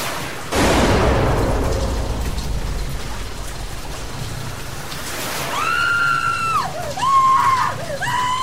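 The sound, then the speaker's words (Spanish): A single loud gunshot inside a house cracks out and rings into a lingering rumble as the front door is opened, then a few seconds later a woman lets out a long, high, wavering scream that breaks and rises again. “justo al abrir la puerta oigo un disparo dentro y un grito de mujer.”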